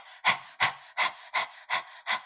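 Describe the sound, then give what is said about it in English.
A person with tongue sticking out pants rapidly like a dog, demonstrating breath of fire breathing: six quick breathy huffs in a steady rhythm, clear with no talking. “So for those who listen to me that are not watching the video, I'm sticking my tongue out and I start panting like a dog.”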